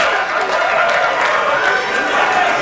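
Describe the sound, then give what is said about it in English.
A large New York crowd at the 1985 NBA draft at the Waldorf Astoria roars steadily, a dense, loud wash of cheering and excited voices that holds at an even level throughout the short stretch without letting up. “As you can imagine, this is a New York crowd.”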